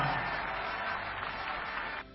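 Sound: crowd applause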